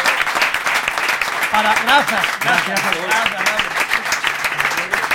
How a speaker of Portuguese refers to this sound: Todos vos estivestes aquí presenciando como ia desenvolvendo ese lenzo durante estes dous programas. Eu creo que merece un gran aplauso.